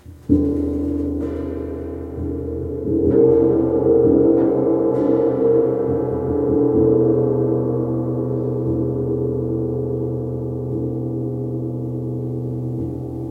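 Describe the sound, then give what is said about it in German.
A gong is struck, and its deep, shimmering tone swells and hums, with a few more light strikes layered in as the loud resonance slowly fades. No one speaks. “Hier kann sie gongsen.”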